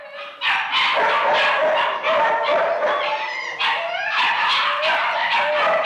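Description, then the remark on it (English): Many dogs bark at once in a loud, nonstop overlapping chorus, with yelps and howl-like cries mixed in, filling the downstairs room where the dogs are kept at a dog shelter. “took him downstairs to the room where the dogs are quartered.”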